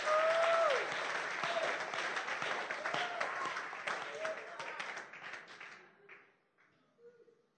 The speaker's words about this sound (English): Oh, you're not clapping for me because... Oh, is that how you clap for some?